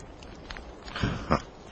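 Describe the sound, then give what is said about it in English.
A person imitates the high-pitched yip-yip call of a Tasmanian tiger, like a fox terrier dog: two short, sharp yips about a third of a second apart, moderately faint against a quiet background, with no talking. “Out of nowhere came this mysterious yip-yip, like a fox terrier dog, a high-pitched yip-yip, and almost immediately an echo, like that.”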